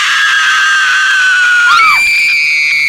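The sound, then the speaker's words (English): A loud, sustained, high-pitched blood-curdling scream that holds steady, then breaks and shifts abruptly to a higher shrill pitch, piercing, with no talking; a sound effect from a CD. “Blood-curdling screams.”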